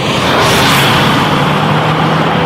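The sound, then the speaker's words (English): The engine of an all-new Mazda CX-9 SUV revs loudly, a steady, throaty roar with a low humming tone running underneath for a couple of seconds, with no voices. “And that's a sneak peek of the all-new Mazda CX-9.”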